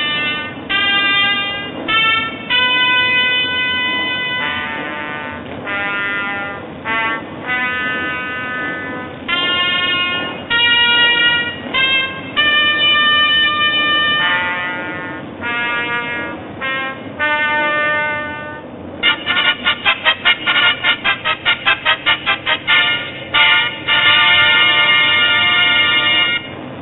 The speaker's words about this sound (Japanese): ファンファーレが鳴ります。